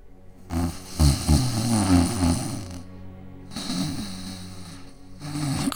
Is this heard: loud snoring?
yes